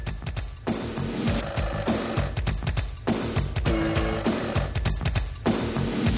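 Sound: telephone ringing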